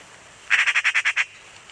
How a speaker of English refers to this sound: The machine gun sound of a magpie and the harsh sound of a carrion crow.